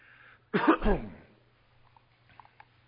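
A single harsh throat-clearing cough from a preacher during a church sermon bursts out, lasting under a second, then fades into a quiet hum with a few faint clicks afterward.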